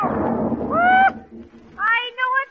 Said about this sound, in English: What was the idea of bringing them fireworks out here where all the sparks is flying?